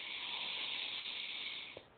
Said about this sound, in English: And taking a nice deep breath right here.